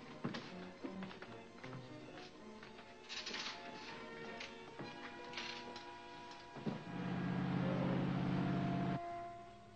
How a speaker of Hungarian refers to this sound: Vigyék le Tobert a csónakhoz, és indítsák be a motort.